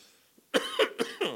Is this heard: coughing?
yes